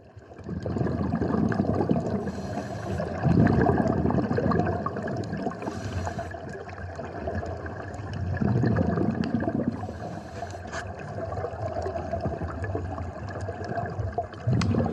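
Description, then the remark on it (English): Continuous muffled rush of water with gurgling and bubbling, steady and fairly loud throughout, heard underwater in the Red Sea during a sea trek, with no voices. “But here's a video, a short video of us doing a sea trek.”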